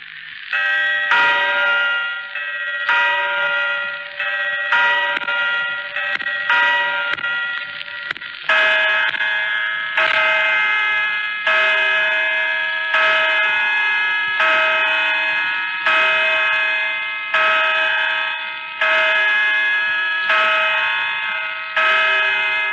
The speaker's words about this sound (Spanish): Son las 10 de la noche. En el reloj de la Puerta del Sol.